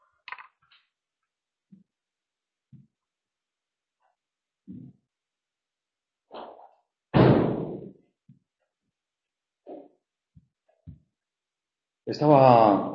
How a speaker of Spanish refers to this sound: disculpad, voy a cerrar un momentito la puerta para que no haya mareo.